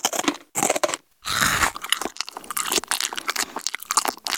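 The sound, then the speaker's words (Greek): Loud, wet crunching and chewing as a one-eyed Cyclops in his cave devours two men in one gulp, in rapid irregular bites with a short pause near the start and a heavy crunch after it. No one speaks. “Την επόμενη στιγμή, ο κύκλοπας άρπαξε δύο από τους άνδρες και τους έκανε μια χαψιά.”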